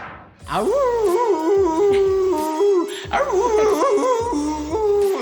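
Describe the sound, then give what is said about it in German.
A person imitates a werewolf howl for Halloween that comes out more like a small dog howling, a loud, sustained, wavering high-pitched cry with a couple of breaks and pitch slides, lasting about five seconds, with no other talking. “Okay, ich klang eben ein bisschen mehr wie so ein kleiner Kläffer, anstatt wie ein großer, böser Werwolf.”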